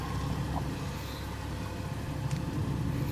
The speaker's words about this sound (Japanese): こちらは、廃品回収車です。ご家庭内でご不要になりました。テレビ、エアコン、オーディオ、冷蔵庫など、回収いたします。壊れていても構いません。